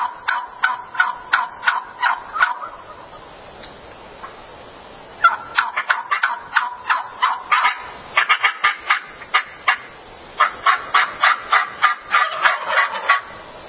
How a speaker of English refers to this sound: So this is what they hear in order to learn what the turkey call is supposed to sound like. Here are the turkey calls from the turkeys that they hear.